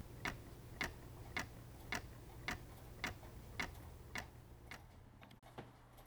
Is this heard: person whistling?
no